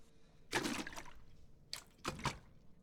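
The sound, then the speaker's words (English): Salt water mixed with some fresh water is poured into a cup in three short splashy bursts, a longer pour first and then two quick ones. The sound is fairly soft, with no talking. “I have some nice salt water for you to drink.”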